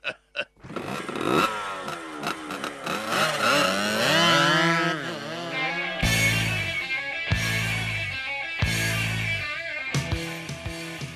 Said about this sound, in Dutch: Dat is de motocross. Op mijn mooie rode motor, dan haak ik erop los.